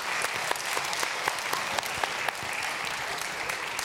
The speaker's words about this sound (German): Ihr habt beide gewonnen. Großer Applaus für die beiden Mutigen!